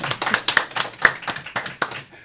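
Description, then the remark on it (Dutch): Clapping from a small group after a live singing performance, a dense flurry of sharp hand claps with a few louder bright ones standing out, holding steady before thinning out at the end. “Applaus.”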